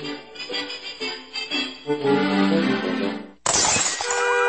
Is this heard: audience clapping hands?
no